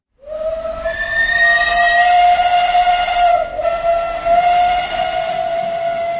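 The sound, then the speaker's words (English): A steam locomotive whistle blows one long, loud, steady note for several seconds at Prague's main station, its shrill harmonic tone riding over a rough background hiss of steam from the engine of a special train bound for London. No one speaks. “The sound of a steam engine and the cloying smell of engine oil made a one-off return to Prague's main station on Tuesday morning.”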